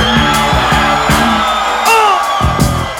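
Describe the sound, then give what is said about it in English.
A loud crowd in LA screams and cheers continuously, with high whoops rising above the roar while a steady, thumping beat pulses underneath. “Come on, somebody scream!”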